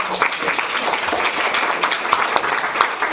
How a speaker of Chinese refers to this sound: 耶，拍拍手。